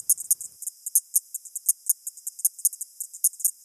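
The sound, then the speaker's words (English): Call of the Australian insect species named the tick-tock: a high-pitched call of rapid, evenly spaced clicks, like a ticking clock, repeating steadily throughout without any voices. “For example, the aptly named TikTok.”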